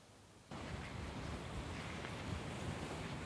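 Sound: sea waves and wind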